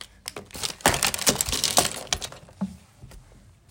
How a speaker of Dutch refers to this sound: Oh, sorry. Ik haal een handdoek. Dom van me om dat glas om te stoten.